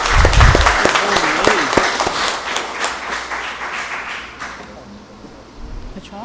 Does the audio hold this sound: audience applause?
yes